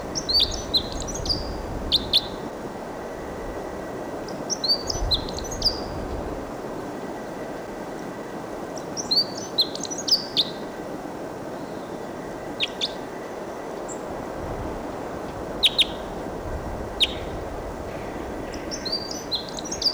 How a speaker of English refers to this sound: It's a wild bird song.